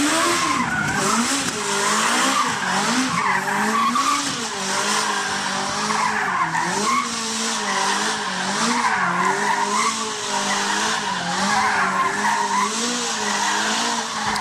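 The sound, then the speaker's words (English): A stunt car spins donuts in a world record attempt of 39 donuts in 100 seconds, its tires squealing nonstop, the loud screeching pitch rising and falling in a steady cycling pattern over the roaring engine, with no talking. “This is a world record for setting a record for 39 donuts in 100 seconds.”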